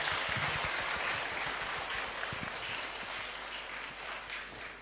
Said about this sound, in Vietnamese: Và rất mong quý vị chúng ta sẽ cùng dành một tràng pháo tay thật lớn để cùng chào đón diễn viên Hồng Ánh ạ.